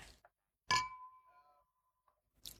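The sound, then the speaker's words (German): A bright glass clink rings out with a sustained tone that slowly fades, followed by a second, sharper clink of glasses touching during a toast. Clear, with no talking over it. “Prost, Jungs. Genau. Prost. Prost.”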